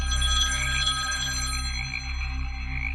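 A telephone rings with a steady, warbling electronic tone that persists throughout, layered over a loud low hum, with no voices present.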